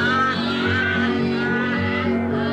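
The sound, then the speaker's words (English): A person imitates a goose, giving a few nasal, honking calls in a steady rhythm over a continuous musical background, fairly loud. “The goose went.”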